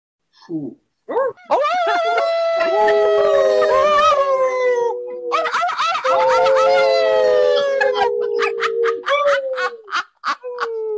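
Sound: wolf howling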